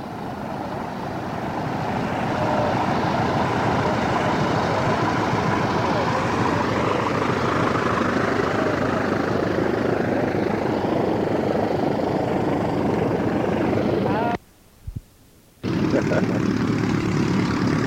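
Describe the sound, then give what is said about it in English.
A Waco QC propeller airplane taxis past, its engine a loud, steady, throbbing drone that swells in over the first seconds and holds, with a brief dropout near the end. “Airplane. Okay, it's Waco QC taxiing by.”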